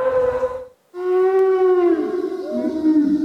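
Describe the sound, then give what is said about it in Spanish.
A brachiosaurus call built from whale and donkey sounds: two long, tonal, rich bellowing cries with many harmonics, the second swelling and sliding, heard alone without talk. “Vamos a escuchar de nuevo a las ballenas y los burros que se convierten en los brachiosaurios.”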